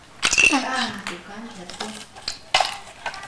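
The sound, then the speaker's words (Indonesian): Glasses and a bottle clink together as they are packed away, with a quick cluster of bright, ringing knocks at the start and another sharp clink later, amid handling rustle and faint voices. “Gelasnya juga dimasukin di sini. Botolnya aja, botolnya aja. Iya nih, botol.”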